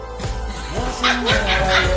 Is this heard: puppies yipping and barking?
yes